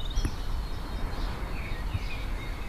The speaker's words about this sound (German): Also der Hausspatz ruft da hinten, ja.